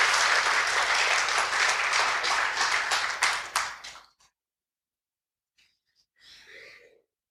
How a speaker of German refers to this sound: Ach so, und seid ihr so nett und klatscht? Ja, danke.